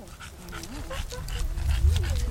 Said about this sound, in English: wrangles about a dozen dogs and their humans at the De Cordova's entrance.